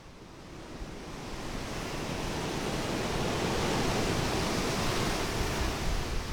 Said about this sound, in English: This is the beach that separates the Indian Ocean from the city the British called Madras, now renamed Chennai. Today, it's a pleasant enough scene with couples sitting by the roaring Indian Ocean, fishermen waiting to take their boats out to sea